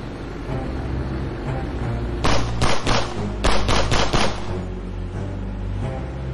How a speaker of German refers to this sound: Plötzlich rasen ein paar Speedboote direkt auf die Bitu River zu. Die Männer in den Booten sind schwarz gekleidet und schwer bewaffnet.